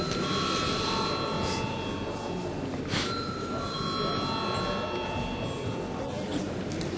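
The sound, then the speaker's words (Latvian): A parliament call bell in the Latvian Saeima rings without pause for several seconds to call deputies to a vote, a steady, sustained metallic ringing that holds a constant level over a faint murmur of room noise. “Lūdzu zvanu.”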